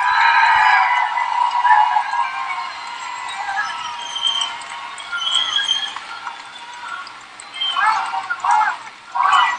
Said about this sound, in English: So the crowd sounds really soft here. But in fact, where I was standing on at the podium, it was roaring loud.